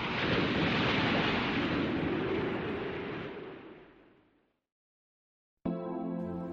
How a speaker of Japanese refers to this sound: 土砂降りの雨の音だけが聞こえてきた。